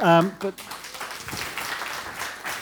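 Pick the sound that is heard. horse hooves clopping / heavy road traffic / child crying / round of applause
round of applause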